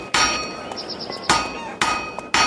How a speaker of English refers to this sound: Legend states that one day, Pythagoras was walking past a smithy's workshop, listening to the sound of the blacksmith's hammers on the anvil.